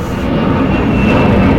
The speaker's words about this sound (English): There's an airplane.